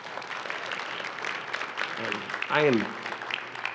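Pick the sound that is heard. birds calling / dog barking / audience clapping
audience clapping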